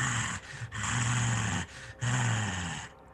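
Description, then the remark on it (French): A voice imitates the growl of a young woman of at most 15: a snarling growl in three rough, sustained bursts separated by brief pauses, loud, with no other talking. “tu remarques dans l'un des coins une femme à moitié nue, habillée de haillons, accroupie dans un des coins avec un couteau de fortune comme ça, mise devant elle, une jeune femme de tout au plus 15 ans qui grogne comme ça.”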